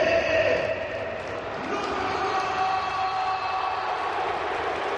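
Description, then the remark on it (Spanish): A huge crowd at the Bernabéu stadium chants Modric's name in unison as the Real Madrid lineup is announced, mixed with applause from fans on their feet, forming a loud, continuous roar that fills the whole five seconds. “Tremendo ahora el grito de Modric de todo el Bernabéu con esa camiseta que dices, Paco.”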